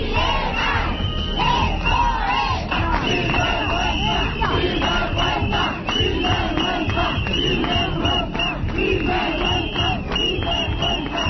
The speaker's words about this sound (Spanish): Los gritos esta mañana frente al Ayuntamiento de Parla de los trabajadores indignados por esos 66 despidos que parece que va a ser ya definitivos, acordados ayer por la Junta de Gobierno Municipal.